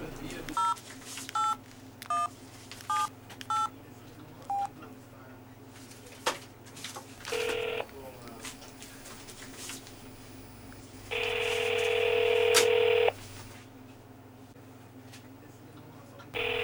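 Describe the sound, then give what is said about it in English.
A quick run of about seven phone keypad beeps, each short and evenly spaced, followed later by a longer steady electronic tone over a low background hum. “Yo, give me a phone number, call me that thing.”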